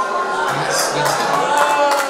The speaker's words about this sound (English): People booing him.